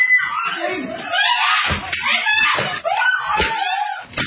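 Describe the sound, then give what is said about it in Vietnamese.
Three women scream in panic while being beaten by thugs in their home, loud, their shrill cries overlapping throughout amid repeated heavy thuds and bangs like blows or a door slamming. “Tiếng la hét thất thanh của những người phụ nữ bị hành hung.”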